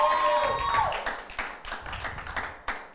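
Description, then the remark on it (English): A church audience claps together during a sermon to give the Lord a clap, a dense, uneven patter of many hands at steady loudness, with a held tone fading out beneath it in the opening second. “Come on, if we're going to give the Lord a clap, let's give it to him good, amen.”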